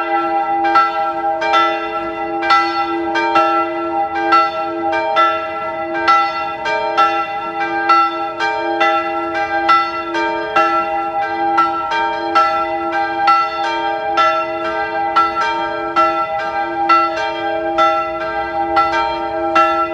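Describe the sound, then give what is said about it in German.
The bells of the Bürgerspitalkirche (St. Blasius church) in Salzburg's old town ring at 12 noon in a steady, overlapping peal, strikes falling in a regular rhythm over a sustained humming resonance, loud, with no voices. “Es ist 12 Uhr. Sie hören die Glocken der Bürgerspitalkirche in der Stadt Salzburg.”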